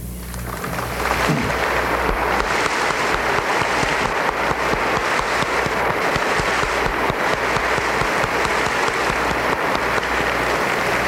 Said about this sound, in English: 34 reporters and cameramen of radio and television stations, and I would like for these people who are here to stand, and I know you'd like to express your appreciation with a round of applause.